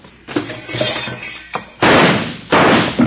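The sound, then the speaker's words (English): Two loud gunshots crack out less than a second apart, each with a harsh, ringing tail, following a stretch of clattering and thumping noises. No one speaks. “now who in the heck is shooting at us and why?”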